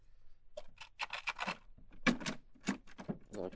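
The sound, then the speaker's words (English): A key scrapes and clicks in a door lock as someone tries keys on a locked room door, a quick series of short metallic rattles and turns with brief pauses between them and no voices; the lock turns but the door stays shut, bolted from the inside. “Lock turns all right, but nothing happens. Seems to be bolted from the inside.”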